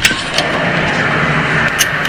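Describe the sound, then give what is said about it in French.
A steady, loud droning rumble resembling a turbine engine, the mysterious sound residents of the Saint-Jean-Baptiste neighbourhood hear at around 5 a.m., runs continuously without pause, a dense mechanical roar with a couple of brief hissy flares, and no voices. “Ils rapportent pour la plupart la présence d'un bruit sourd vers 5 heures. Certains évoquent à un son ressemblant à une turbine de moteur.”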